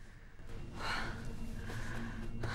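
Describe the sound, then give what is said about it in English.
Quick, heavy breaths of a woman in a hotel room, broad airy bursts of exhaling and inhaling that come in rapid succession and gradually calm, with no talking. “Breathing quickly, she gradually calms down”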